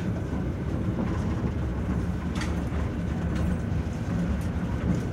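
Steady low rumble of railway carriage no. 3482 rolling along the tracks, heard from inside, with faint intermittent clacks and rattles over the continuous droning roar. No one speaks.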